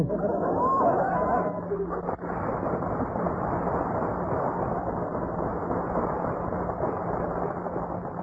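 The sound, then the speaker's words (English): Dense crowd chatter fills a crowded department store, a steady murmur of many overlapping voices with no single speaker standing out, holding an even level throughout. “It's crowded in here, ain't it?”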